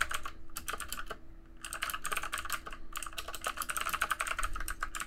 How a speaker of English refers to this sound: And in the meantime, you should all enjoy the dulcet sounds of typing